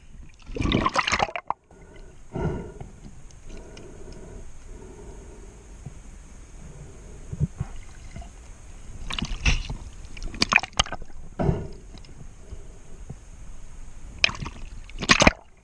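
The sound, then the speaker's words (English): Someone wades into water to search for shark teeth, with several loud, sloshing splashes in irregular bursts and quieter trickling and dripping between them, with no talking. “And they go by, I get in the water.”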